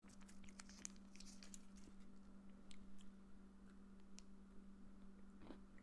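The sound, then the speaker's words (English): Crunchy chewing of a Reese's Oreo peanut butter cup, with irregular crisp crackles and small snaps over a steady low electrical hum; no one talks. “It's got a little bit of a crunch from the Oreo.”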